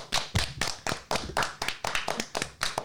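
A small group claps for a few seconds, the sharp, fairly close hand claps landing in a quick, slightly uneven rhythm without any voices.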